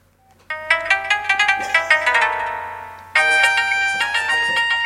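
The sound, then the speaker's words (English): A bright, bouncy electronic tune plays from a cell phone speaker, with rapid chiming melodic notes like Nintendo Wii console music, steady and fairly loud, with no talking over it. “God, this sounds like Nintendo Wii music.”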